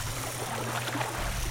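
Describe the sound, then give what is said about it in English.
Steady water ambience with soft lapping and splashing around a boat, a continuous low rumble underneath and gentle watery textures at a moderate level, no voices. “So you can hear the water, and I have to say the ambience is very good.”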